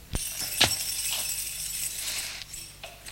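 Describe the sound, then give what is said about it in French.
A shop's service door is unlocked and opened: a few sharp metallic clicks and a jingle of keys, followed by a soft creak and faint rustling, with no talking. “Il ouvre la porte de service de son magasin.”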